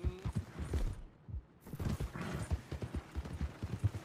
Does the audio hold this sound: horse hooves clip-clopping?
yes